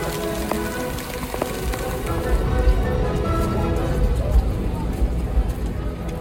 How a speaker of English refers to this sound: The rain is terrible right now. It's Jazz Fest. You must not be from here. You would understand. It is raining really hard, as you can see.